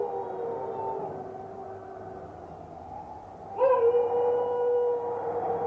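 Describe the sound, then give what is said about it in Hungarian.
Long, sustained wolf howls overlap in a drawn-out chorus, and a fresh, louder howl rises partway through and holds steady to the end. “Hűha, jönnek a farkasok!”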